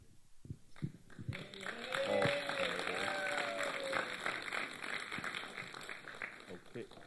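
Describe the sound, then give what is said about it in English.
An audience at a church gathering claps steadily after a prayer, a dense patter of many hands, with some voices and cheers rising through it before the applause settles. “Yeah, thanks for the hand claps.”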